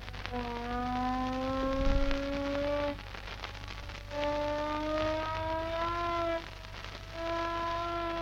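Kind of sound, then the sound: signal or alarm, air raid siren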